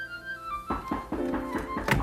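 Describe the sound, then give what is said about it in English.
A delivery man knocks firmly on a wooden door, about five hollow thuds in a loose, uneven rhythm, following a brief sustained musical tone. “Oh, there's somebody at the door.”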